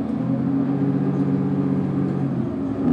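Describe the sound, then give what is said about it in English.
Steady low engine drone and road rumble from inside a moving 51B city bus heading towards campus in Berkeley, a continuous hum with faint rattling throughout and no one speaking. “I'm riding the 51B bus towards campus, and long rides on this line are the reality for many Berkeley students.”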